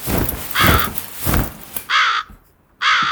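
A raven caws four times, harsh and loud, with short gaps between calls; the first two caws sit over a faint noisy background, the last two ring out alone.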